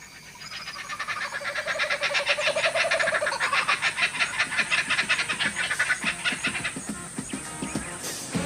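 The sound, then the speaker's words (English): Cane toads croaking in a dense, steady chorus of rapid trilling calls that overlap and continue for the whole stretch, fairly loud, with no voices. “And after about a period of a week, I killed hundreds of cane toads.”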